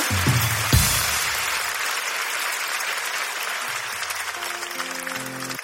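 Dense, steady crowd applause fills the whole stretch, loud and continuous, with a few brief low tones and a short musical chime poking through near the start and end.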